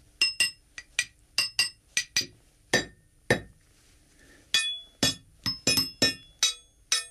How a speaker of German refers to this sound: Das zentrale Arsenal von Schlagwerkstücken besteht aus Kleinmetallteilen von Zügen und Gleiskörpern. Ich habe hier vier Stück mitgebracht und werde jetzt vorsichtig spielen.